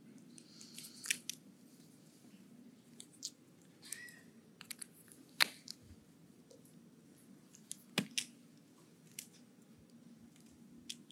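Pen handling as someone switches pens: scattered small clicks and light rattles, with a few sharper snaps spread over several seconds, all fairly quiet above a low steady room hum and no talking.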